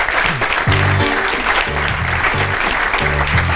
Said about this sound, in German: Danke vielmals, lieber Yves. Ein Applaus danke für Yves Bosser.